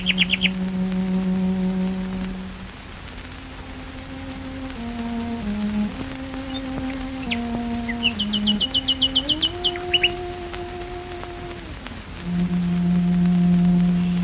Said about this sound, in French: Des ingénieurs du son viennent l'enregistrer en live dans le jardin de sa maison et des rossignols se mettent à chanter en même temps qu'elle joue.